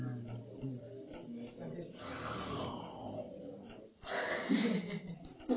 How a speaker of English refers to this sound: And that would indeed be sweet music. Deep breathing.